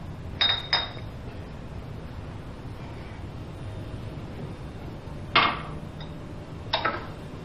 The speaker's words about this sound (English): What are you doing? We've got to wash the dishes